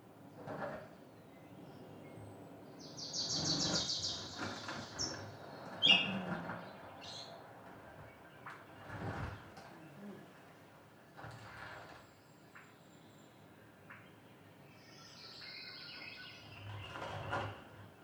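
Close, soft bassy wing flutters from Swainson's thrushes and other small birds dancing around on branches, arriving as scattered irregular thumping pulses, with faint high bird chirps in the background and no talking.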